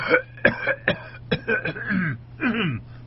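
A person coughs and clears their throat in a rapid series of rough, hacking bursts, fairly loud, with a low steady hum underneath.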